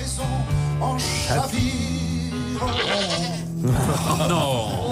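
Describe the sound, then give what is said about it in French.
A goat bleats repeatedly in shaky, wavering cries, mixed loudly over a playing song with steady background music throughout. “Qui a rajouté la chèvre?”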